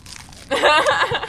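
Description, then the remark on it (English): A loud crunch of a snack being bitten and chewed, lasting about half a second after a brief quiet moment, with a short voiced murmur or chuckle mixed in. “Good crunch.”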